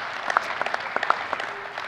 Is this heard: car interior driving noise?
no